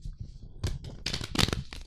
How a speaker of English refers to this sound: Like, I would go, oh, what, I'm going to pull a card a day. And what should I learn about today? Okay. So I would have that intention. I would shuffle the deck.